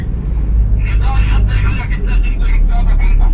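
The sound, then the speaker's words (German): Steady low engine rumble of a fully occupied bus on the move, with a murmur of overlapping voices from passengers throughout, fairly loud. The bus is travelling to the bus station on Nablus Road in East Jerusalem. “Am anderen Ende wartet schon der vollbesetzte Bus. Wir finden noch einen Sitzplatz.”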